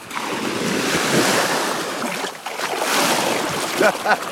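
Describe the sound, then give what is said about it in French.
Steady rushing surf with waves washing in and swelling on a beach on a sunny, warm Sunday morning at 9, mixed with gusty wind buffeting the microphone; no talking, just the continuous roar of the shore. “Les pieds dans l'eau, soleil, le vent, chaleur sur mon corps.”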